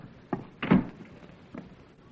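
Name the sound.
door being closed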